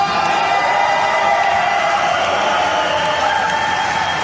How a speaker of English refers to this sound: You know, I would take calls today, but all the radio audience is hearing is me talking and people cheering, and then because it would feed back, we're not running the feed of the audio out to this big auditorium